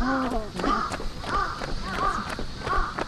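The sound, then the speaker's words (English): Several crows caw repeatedly in Yoyogi Park in central Tokyo, their harsh, rasping calls overlapping in an irregular rhythm at a steady, fairly loud level with a faint background hum. “But the battle with the pesky passerines continues today, as NPR's Louisa Lim found out on a recent trip to Tokyo.”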